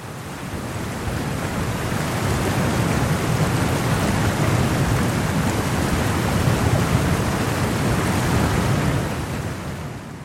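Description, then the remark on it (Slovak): A strong thunderstorm with lightning: a steady, dense downpour roars continuously with a deep, low rumble beneath it, loud and enveloping throughout, with no voices present. “Koho v silných búrkach netrafia blesky, môže zahubiť kamenná lavína.”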